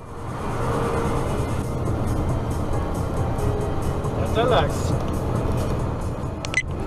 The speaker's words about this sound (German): Hier sind wir wieder zurück auf der Autobahn.